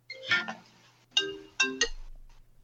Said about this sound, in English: my phone is ringing. That's okay.